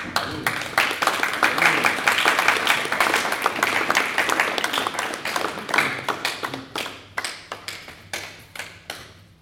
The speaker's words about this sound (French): Je vous demande donc d'applaudir très fort Monsieur l'arbitre.